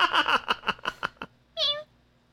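A single short, clear cat meow rings out right after a burst of rapid speech ends and a brief pause follows.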